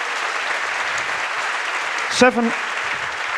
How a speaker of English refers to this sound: He's over there. Give him an applause for the game.